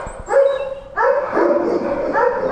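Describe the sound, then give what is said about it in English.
Several dogs bark and yelp in overlapping bursts at an animal shelter ahead of Halloween, loud, with a few rhythmic woofs repeating through the short stretch and no people talking. “I'm at the NSPCA, where they're preparing to support their animals with the noise and chaos that comes along with Halloween.”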